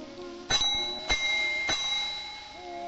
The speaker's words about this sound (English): Homer rings a desk bell near a chandelier and fountain.